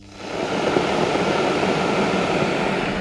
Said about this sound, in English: So with our meter running at 341 watts, let's just turn the kettle on here.